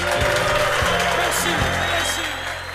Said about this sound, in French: Moi, je te dis, les applaudissements à Cannes, ça fait pas mal tout le temps. Pas mal tout le temps à la job.